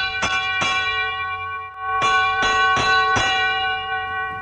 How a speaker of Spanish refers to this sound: Y más cuando suena la campanilla desde el palco presidencial anunciando el inicio del espectáculo. De lo que me ha dicho hasta ahora, hay algo que me llama poderosamente la atención. ¿Y qué es? La campanilla. ¿Puedo escucharla? Claro.